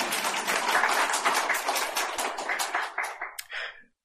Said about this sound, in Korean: 우리 큰 박수 부탁드리겠습니다.